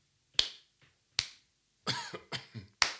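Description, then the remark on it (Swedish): A few sharp, isolated hand claps, slow and widely spaced, imitating the thin applause heard when leaving a cinema. They are crisp, with a brief burst of vocal noise between them. “Och så gick vi därifrån och så lät applåderna ungefär så här.”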